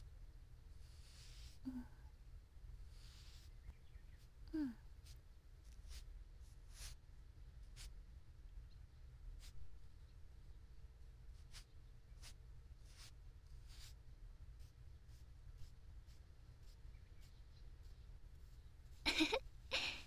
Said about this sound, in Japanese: 次はこのアイブロウペンシルを使って眉を描いていくね。